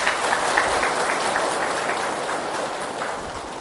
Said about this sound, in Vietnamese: Nếu thấy rằng là việc giúp đỡ người khác để góp phần xây dựng cho xã hội này ngày càng được hạnh phúc đó, thì xin quý vị hãy dành một tràng vỗ tay để cam kết.